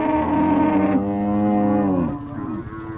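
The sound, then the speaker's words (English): A cow on a commercial cattle grazing property a few kilometres inland from the beaches near Caloundra on Queensland's Sunshine Coast lets out a long, loud, drawn-out moo, its pitch sliding downward as it fades, with no voices present. “Now, it might sound like we're mustering cattle in the outback, but we're not.”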